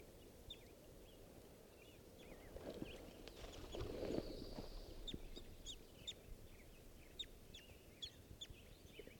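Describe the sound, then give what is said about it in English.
At 7:30 at a little waterhole at a scout camp, a bird gives a series of short, sharp high chirps at irregular intervals over a low rumbling background, with a brief louder burst of mixed noise partway through. No one speaks. “This is one of the birds, I'm not sure which.”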